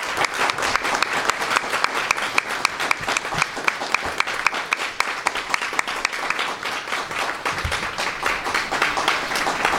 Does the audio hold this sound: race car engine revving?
no